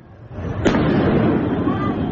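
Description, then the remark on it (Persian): A single sharp explosion cracks out inside Evin Prison, likely caused by the firing of unidentified projectiles, followed by a long, steady roar of noise and rumble, with indistinct voices faintly mixed into the background. “این هم ویدیویی است که نشان می‌دهد انفجارهای داخل زندان اوین احتمالاً به علت شلیک پرتابه‌های نامشخص بوده است.”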